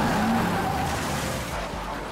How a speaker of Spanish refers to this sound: Un día después de secuestrar a un patrullero y a otro hombre, lo habían visto en una vía rural de Georgia. Estrelló su auto contra una patrulla en el camino.